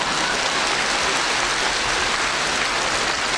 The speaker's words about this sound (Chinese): 鼓掌。